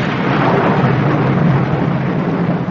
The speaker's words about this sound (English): It's quite on the cards that this storm may last all night, so we shall just have to make the best of a bad job.